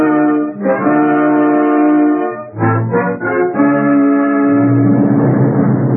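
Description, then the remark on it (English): An army troop train roars westward through the darkness about 12 miles east of Humboldt, Texas, at 4:30 a.m. on January 6, 1943; its deep horn blares in long sustained blasts, broken by a few short toots, while the rumbling roar swells underneath toward the end. No voices. “About 12 miles east of Humboldt, Texas, an army troop train roars westward through the darkness.”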